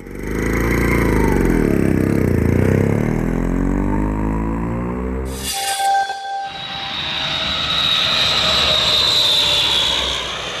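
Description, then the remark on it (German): Loud aircraft engine roar with a low, wavering drone that sweeps in pitch, then abruptly gives way to a steady high jet whine and humming tones over continuous rumble. No one speaks. “Welche Auswirkungen hat Fluglärm auf schlafende Kinder?”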